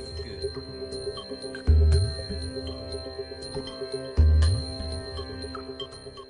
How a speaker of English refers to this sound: I'll do the bell again. Ding, ding.